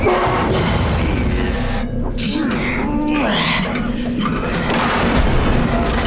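A heavy crate is hoisted and shifted, giving a loud, continuous rumbling scrape with dull knocks and thuds throughout, and a brief lull in the middle.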